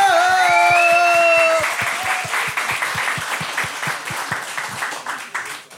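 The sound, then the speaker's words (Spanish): A loud burst of audience applause for the day's guest on the show Expedientes. Rapid overlapping claps run throughout, with high, sustained whooping cheers over the first second or two before the clapping carries on alone. “Un aplauso muy fuerte y una bullita para la invitada del día, por favor.”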